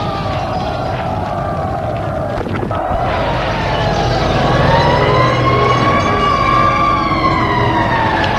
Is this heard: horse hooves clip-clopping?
no